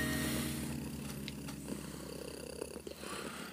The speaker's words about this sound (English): The cat quietly jingles on top of my belly as my aching feet do the hard work of nothing at all, jumping up only to flump down in a comfier position.